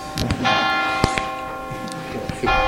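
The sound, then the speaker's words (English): A bell rings with several distinct strikes, each leaving a sustained, shimmering tone that hangs in the air. It is fairly loud, with a faint murmur of voices in the background. “You see, the trumpet is sounding, the bell is ringing.”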